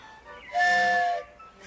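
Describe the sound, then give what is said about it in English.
A wooden train whistle is blown again, giving one breathy, loud blast lasting about half a second, its airy tone carrying steady harmonics, with quiet before and after. “Oh, it's a train whistle. Wow, a wooden train whistle.”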